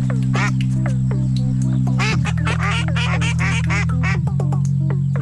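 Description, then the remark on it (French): A duck quacks repeatedly in quick, nasal bursts, loud, over a steady low hum that continues throughout; part of the show segment L'île des Flaquettes. “Ceci est un caillou et hop, un joli canard.”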